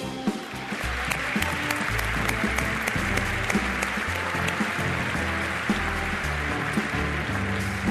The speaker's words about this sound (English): Thank you, Dr. Album. Let's also give him another round of applause.